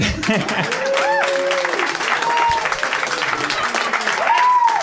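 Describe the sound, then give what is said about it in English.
A crowd breaks into sustained applause with scattered cheers and whoops rising over the steady clapping, loud and continuous throughout, applauding for crunchy peanut butter. “A round of applause.”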